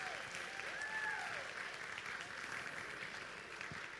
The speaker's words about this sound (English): another round of applause, because that was wonderful.